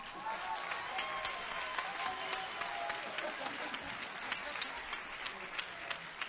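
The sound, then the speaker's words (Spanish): An audience at a band's concert breaks into sustained applause for a guest performer, a dense, steady wash of many hands clapping at an even loudness for about six seconds, with some crowd voices mixed in. “Como veníamos diciendo, aplausos”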